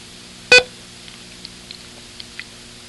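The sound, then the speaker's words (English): A single short, sharp electronic beep, the short beep of a listening exercise, sounds loudly near the start, then fades into near silence with only a few faint, tiny ticks afterward. “I want you to write dang, D-A-N-G, for each long beep, and a it for each short beep.”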